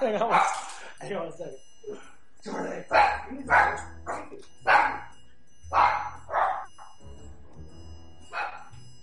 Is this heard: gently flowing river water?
no